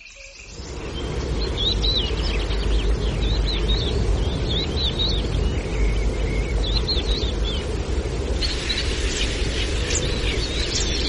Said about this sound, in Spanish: Los carrizas trinan más atrás, junto a pinzones y verdecillos.